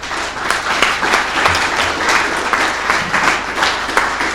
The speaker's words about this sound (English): So could we give a round of applause to the panel, please?